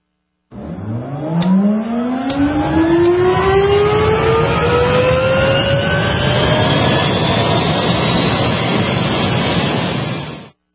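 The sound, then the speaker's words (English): A powerful, really fast sports car engine accelerates hard as the accelerator is pressed, its pitch climbing steadily in one long, continuous rise over roughly ten seconds. The roar is loud, with no voices. “You're driving that really fast sports car. Just lean back, push the seat back, and press on the accelerator.”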